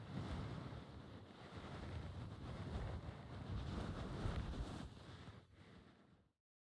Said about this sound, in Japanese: あとはタオルで拭いて。